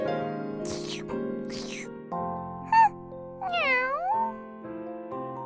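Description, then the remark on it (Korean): A cat gives one drawn-out, rising-and-falling meow over steady background music, preceded by a short high squeak. It sounds clear. “그러든 말든 고양이는 무척 침착하네요.”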